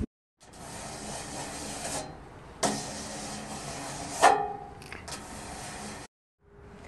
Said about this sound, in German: Und hinter manchen Türen hört er ein komisches Kratzen.